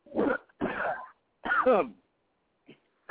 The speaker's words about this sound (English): Oh, man. I got the coughs now.